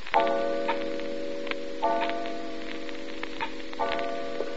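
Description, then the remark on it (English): A clock ticks steadily, its sharp, regular clicks ringing out over a sustained low droning hum, with no one speaking. “You let the clock scare you.”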